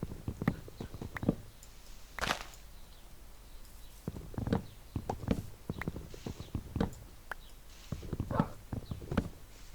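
horse hooves clip-clopping

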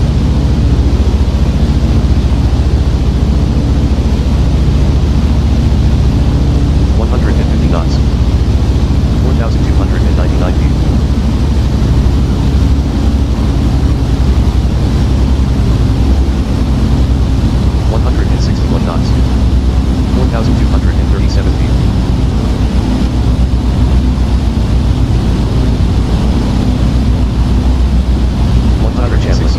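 airplane in flight

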